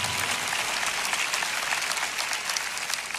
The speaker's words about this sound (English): Come on, clap. Otherwise, there's no other sound. Clap.